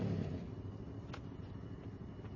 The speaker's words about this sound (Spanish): La joven monta en la parte de atrás. La moto se aleja.